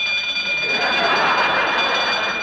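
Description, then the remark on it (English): An alarm clock rings at 4 o'clock in the morning, steadily and continuously, a loud metallic jangle with bright, shrill high tones that holds at an even level for the whole stretch, with no talking. “Turn off that alarm clock!”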